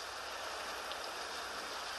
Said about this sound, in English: I have one of these goofy apps on the iPhone that plays rain sounds. I run that all night.